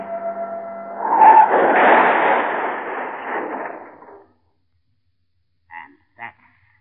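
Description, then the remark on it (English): A car engine whines and revs as tires screech in a loud, sweeping skid for about four seconds while the car spins around, then cuts off, followed by two brief, faint knocks. “Spin around. Rev and twist.”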